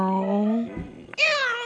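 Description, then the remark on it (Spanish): A person imitates a cat's meow: a drawn-out, low vocal tone that slides into a short, higher nasal mew near the end, delivered clearly with no other sounds. “Yo le mando un miau.”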